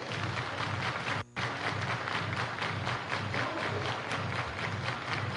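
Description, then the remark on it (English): A large stadium crowd at a baseball game claps along in a steady rhythm during a full count, a dense wash of hand claps that fills the whole space, with one brief dropout early on. “Everybody clap your”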